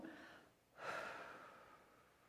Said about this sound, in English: So let's settle in for a moment. Let's do our conscious breathing one more time with our three breaths. One to let go.